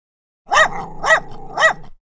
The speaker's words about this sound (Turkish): Ancak tam bu sırada bahçeden bir köpek sesi geliyor.